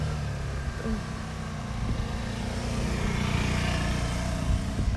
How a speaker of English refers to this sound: That reminds me of Italy. Yeah. That's a scooter. Yeah, but like the best one.